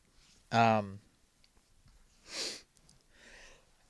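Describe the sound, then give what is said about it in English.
A loud, sharply voiced sneeze bursts out, followed by a softer breathy snort and a faint sniffing breath afterward. “Bless you.”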